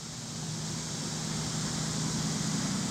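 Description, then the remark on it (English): A steady outdoor drone of cicadas buzzing high and constant, layered over a low continuous rumble of passing traffic on Highway 62 at Prairie Grove Battlefield State Park, with no talking. “The buzzing of cicadas mixed with the sounds of the passing traffic on Highway 62 fill the air at Prairie Grove Battlefield State Park.”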